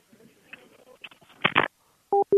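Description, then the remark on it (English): A brief rustle and clatter of a receiver, then two loud, steady electronic beeps of a phone line's disconnect tone after the other caller hung up, evenly spaced, with no voices. “And he hung up.”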